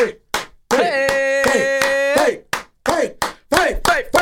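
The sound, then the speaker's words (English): A string of sharp hand claps in a loose, steady rhythm, fairly loud, with a sustained voice-like tone and bits of vocal sound mixed in between. “Clap it up”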